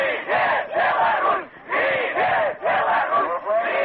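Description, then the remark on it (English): Hundreds of angry demonstrators outside Parliament on a Sunday shout and chant their opposition to a referendum on Mr. Lukashenko's proposal to expand presidential powers, in loud, rhythmic bursts, voices swelling together in repeated waves with brief dips between them. “Outside Parliament Sunday, hundreds of angry demonstrators shouted their opposition to the referendum, calling it unconstitutional.”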